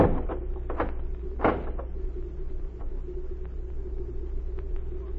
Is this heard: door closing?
yes